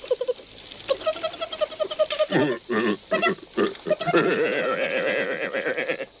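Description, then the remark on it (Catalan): A wild boar grunts and squeals as Goku tickles it, a run of short choppy grunts breaking into longer, wavering squeals, loud and continuous for several seconds with no talking. “En Goku s'acosta al senglar i li fa pessigolles.”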